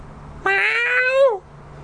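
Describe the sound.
A person imitates a cat with a single drawn-out meow, a rich harmonic tone rising slightly then sliding down at the end, lasting about a second against quiet background hum.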